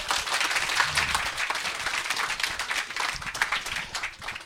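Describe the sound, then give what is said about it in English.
A crowd applauds steadily, a dense wash of many hands clapping at once, sustained and fairly loud from start to finish with no voices breaking through, as an audience welcomes a guest at a Banter event. “So please also, while you're giving rounds of applause, please welcome Mr.”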